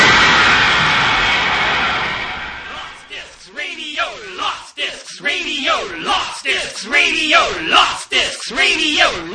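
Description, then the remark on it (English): A loud, dense roar of crowd cheering for astronaut Blooper after a good flight fills the first few seconds, then gives way to a run of rhythmic shouts and whoops that swoop up and down in pitch. “Let's have a big cheer for astronaut Blooper for making a good flight.”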